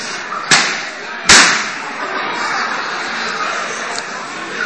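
Balloons being popped: two sharp, loud pops a little under a second apart, each a sudden burst that cuts off fast, followed by a steady hiss of background noise with a faint tick near the end.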